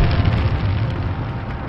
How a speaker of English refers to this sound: For each flight, Spaceship One was dropped in mid-air from its mothership and lit its rocket engine.